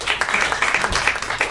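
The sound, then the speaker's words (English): An audience claps together when asked to clap if they saw the film The Help, a dense, steady patter of many overlapping hand claps, moderately loud and sustained through the short stretch with no voices on top. “clap if you saw The Help.”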